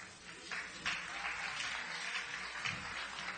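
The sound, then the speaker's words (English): An audience applauding, a dense, steady wash of many hands clapping at once with no distinct individual claps, fairly soft and with no voices over it. “My intention wasn't for you to applaud.”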